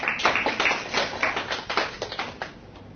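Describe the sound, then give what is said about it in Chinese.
An audience applauds steadily for about three seconds, many hands clapping in a dense, irregular patter of crisp slaps at an even, moderate loudness, with no voices over it. “哇太好了，给这个朋友掌声鼓励一下。”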